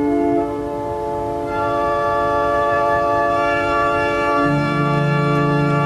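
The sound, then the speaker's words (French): A pipe organ rank, one of the rows corresponding to one of the organ's keyboards, sounds a loud, steady sustained chord; brighter upper notes join after a moment, and a deeper bass tone enters near the end. No one speaks over it. “Et chacune de ces rangées que vous voyez ici correspond à l'un des claviers que je vais vous faire entendre et qui sonne d'ailleurs aussi à des niveaux différents.”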